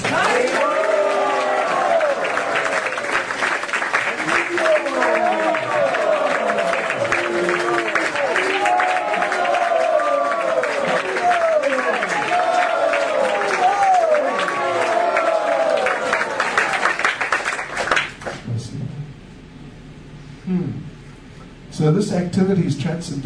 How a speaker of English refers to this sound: Let us give a round of applause for the weekend warrior. Давайте же одарим своими аплодисментами воинов выходного дня.